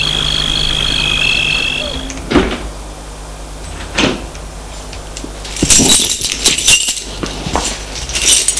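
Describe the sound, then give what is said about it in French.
A house door creaks open with a drawn-out, high squeal, followed by several heavy knocks and a rattling clatter as a man swings it shut behind a woman. No one speaks. “Il a fermé la porte derrière elle.”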